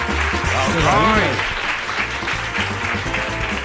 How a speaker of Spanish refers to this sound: Un aplauso para Alcoy, hombre.